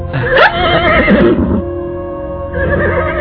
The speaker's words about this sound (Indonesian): Ini kuda Nini Puspitasari. Maaf, kuda itu belum diberi makan ini.